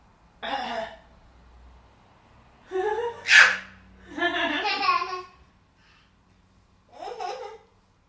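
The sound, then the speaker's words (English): A young child, asked by their mother to cough, lets out a handful of short, separate coughs and throat-clearing bursts, spaced irregularly with quiet pauses between them, one sharper and louder than the rest. “My goodness, cough, cough for Mummy.”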